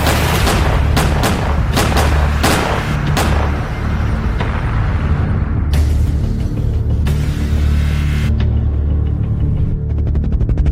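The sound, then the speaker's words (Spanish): Two rapid bursts of gunfire from a hitman attacking people in a car, two blocks from a yogurt factory, crack out loudly: a tight cluster of shots followed by a few scattered ones, over a heavy low rumble with no voices. “Tocó a mí vivirlo todo porque yo escuché cuando sonaron 2 ráfagas de tiros.”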